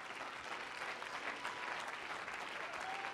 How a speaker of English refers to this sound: Clap your hands unto him.